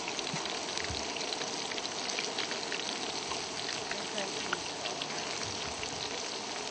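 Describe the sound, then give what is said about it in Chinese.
Pieces of meat coated in starch fry steadily in boiling oil until golden and crisp, for an enoki mushroom dish, a dense, continuous crackle and spatter that stays fairly loud throughout without letting up. “你煮金针菇的时阵吼，爱剁一撮肉一撮肉吼，啊，温粉落去煎，油嘛是爱滚哦，才会使煎，才会酥哦。”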